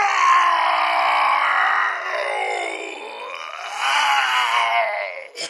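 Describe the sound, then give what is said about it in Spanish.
A person's voice imitates an angry ogre shouting and roaring: a long, strained, guttural growl that swells, dips, then surges again for several seconds before a brief breath at the end, loud. “Todos se dieron cuenta de que el ogronte estaba enojado porque empezó a gritar y a rugir y a mover las manos como si fueran las aspas de un molino.”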